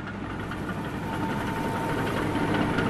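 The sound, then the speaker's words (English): Road graders, bulldozers and dump trucks preparing 300 acres for pavement run in a steady low rumble with a rough, knocking engine drone and a faint high whine, holding constant and loud throughout with no voices. “Road graders, bulldozers, and dump trucks are preparing 300 acres for pavement.”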